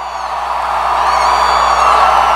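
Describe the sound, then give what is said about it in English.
A crowd at a Donald Trump rally in Arkansas, announced at 11,500, cheers and whoops loudly and steadily as he arrives, a dense wash of many voices shouting together without pause, with a few higher whoops rising above the roar. “But when he did arrive, those on hand made him feel welcome.”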